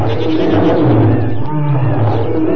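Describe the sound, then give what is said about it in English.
A deep, rumbling roar from a behemoth, a huge creature with an enormous tail, loud and sustained for a couple of seconds with a growling low end and a brief dip midway before surging again. “What was that? Oh, that's the behemoth.”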